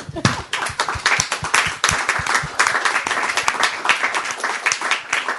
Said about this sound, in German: Einen kleinen Applaus vielleicht.